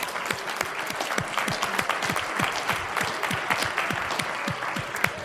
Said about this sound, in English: Give our brother a clap offering.